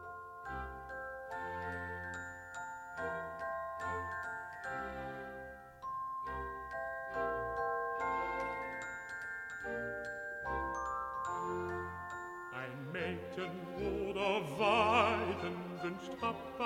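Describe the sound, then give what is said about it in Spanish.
Bright, tinkling magic bells chime a quick, lilting melody of repeated notes with orchestral accompaniment in an opera recording, growing fuller and busier toward the end. “Vamos con más campanas. Las que utilizaba cierto cazador de pájaros llamado Papageno para calmar a las fieras.”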